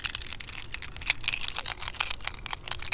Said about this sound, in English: At the sound of the jingling keys, it will be 1930 UTC.